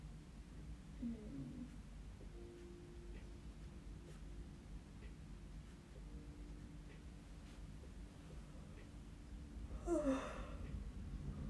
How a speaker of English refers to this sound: Yeah, I know I'm yawning, okay? You don't have to rub it into my face every single time I yawn.